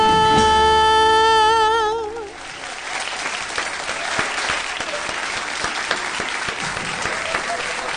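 A song closes on a long, held vibrato note with backing music, then an audience breaks into steady, dense applause that carries on loudly for several seconds.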